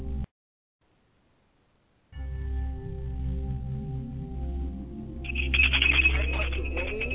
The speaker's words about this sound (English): A bell of some sort to call their name.